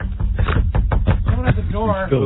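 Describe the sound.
A rapid series of firm knocks on a door, fairly loud, followed by someone starting to speak.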